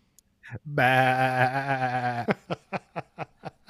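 A loud, wavering goat bleat holds for over a second, then breaks into a quick run of short, evenly spaced bleating pulses that fade out.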